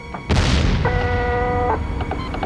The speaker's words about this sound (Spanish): Están estallando minas. Están en guerra en este planeta. Oye, no hay ninguna guerra. No sí. Se oyen disparos. Tal vez solo son los depósitos de algún mineral.